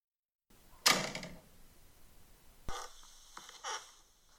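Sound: door opening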